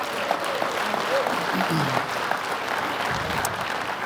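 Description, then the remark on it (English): Steady applause from a church audience, a dense wash of many hands clapping at a fairly loud, even level throughout, with faint voices mixed underneath. “While we're clapping, thank you very much.”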